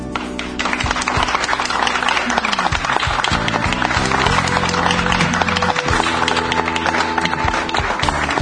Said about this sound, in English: Thank you for the beautiful sound of that applause.